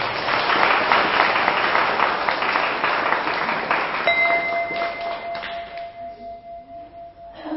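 An audience applauds at a speaker's invitation during a talk, with dense, sustained clapping that gradually thins and fades; partway through, a clear ringing tone, like a bell or chime, sounds and lingers over the dwindling claps.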